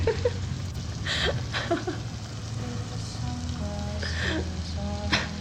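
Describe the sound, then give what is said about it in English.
Rainwater splashes in short bright bursts as it is splashed at a person, over a steady hiss of rain, with a low rumble underneath and a few faint voice-like tones and a trace of laughter mixed in. “You did not just splash me with rainwater.”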